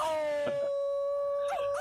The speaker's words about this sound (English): Husky howls.